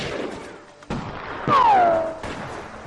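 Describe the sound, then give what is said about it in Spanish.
A Western-style shootout effect: three sharp gunshots cracking about half a second apart, the middle one followed by a loud, whining ricochet that slides downward in pitch. “Lo que cuenta es quién desenfunda primero, quién es más astuto para romper lealtades, porque en cualquier momento se monta una ensalada de tiros.”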